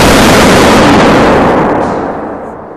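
A loud firework blast from a chemical explosion, set off as a New Year's firework in a chemistry experiment: one booming bang with a broad, roaring rumble that slowly fades over a few seconds. No voices.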